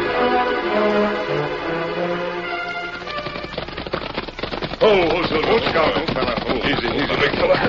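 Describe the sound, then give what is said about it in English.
Sustained tones give way to a rapid, dense clatter of hooves clopping on a hard surface, growing louder and busier halfway through as horses arrive, with indistinct voices mixed in. “Easy, easy. Leave the horses here”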